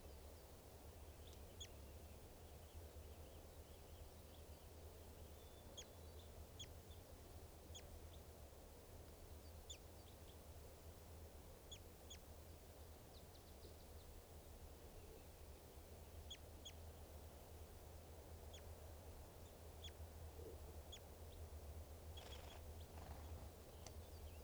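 Short, high bird calls chirp repeatedly at irregular intervals, fairly faint, over a steady low rumble of background noise. No one speaks.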